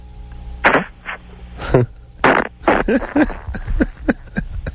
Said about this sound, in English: I like the part where, see, because people who can fart on command suck it in. Yep. And then spit it out, right?